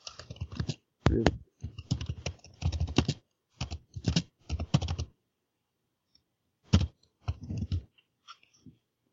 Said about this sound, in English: Okay, I'm typing it as we talk.